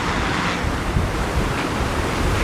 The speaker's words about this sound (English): And this wind is weird. It's never been this windy before when I've been in Japan. So, given that, Jesus, now it's like blowing me back.